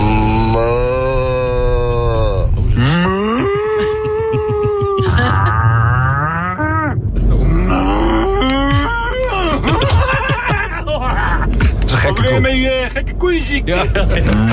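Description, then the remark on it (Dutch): A string of human voices imitating cow moos, recordings sent in by listeners through an app, one after another: long, wavering, drawn-out lowing calls, some deep and groaning, others higher and whining, loud with little pause between them. “Maar er zijn een hoop luisteraars die via de app een koe hebben ingestuurd.”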